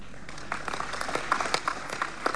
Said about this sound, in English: Oh, no, no, that clap is very weak. Very, very weak.